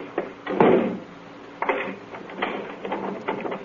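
A door swings shut with a solid thud, followed by a few sharp metallic clicks and clunks as the lock is turned, with no one talking.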